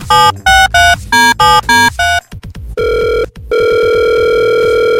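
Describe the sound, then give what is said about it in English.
A quick run of short dialing beeps and a few clicks, then a telephone line rings with long, steady, buzzy tones as Radio 1 UAE calls the person who advertised a limousine. Nobody speaks. “Let's see whether we can... get this person on the phone.”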